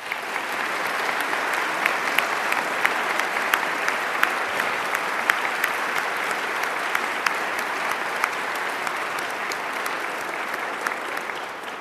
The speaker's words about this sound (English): Please join me in a round of applause to congratulate this year's A Award recipients.